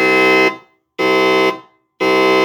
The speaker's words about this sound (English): May I have your attention, please? May I have your attention, please? Fire alarm has been reported in the building. Please proceed to the nearest available exit and evacuate the building.